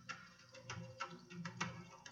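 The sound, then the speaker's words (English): Faint, muffled drum beats thump in an irregular rhythm, quiet against a low background hum, with no voices present, heard over a phone near the furnace in an empty basement where the sound plays nonstop. “Can you hear it now? Oh, are those drums?”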